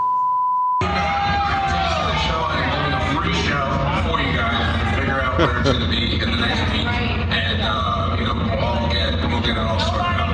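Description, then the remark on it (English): A loud crowd at a club cheers and shouts continuously as a video is played on the big screen, a dense wall of overlapping voices, whoops and yells that stays steady and energetic for about ten seconds after a brief tone at the start. “Now listen to the crowd.”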